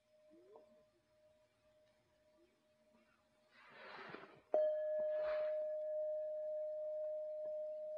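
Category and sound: signal or alarm, bell ringing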